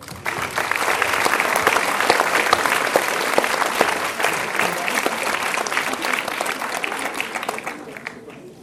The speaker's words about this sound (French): Donc d'applaudir